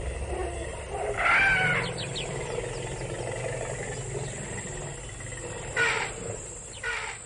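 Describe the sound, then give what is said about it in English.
Elephant calls, like those once heard in the marshes and wetlands around Ellis Park, ring out in three brassy, wavering bursts over a steady low rumble. One burst comes early and two come close together near the end. No one speaks. “There were once actually elephant calls.”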